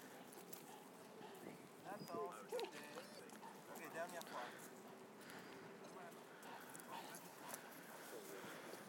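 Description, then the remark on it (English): A dog whimpers and lets out short, wavering 'ooo' whines in a few bursts while being made to sit for a photograph, over a steady background of rustling and shuffling movement. “No, we'll have none of this ooing. Stop it.”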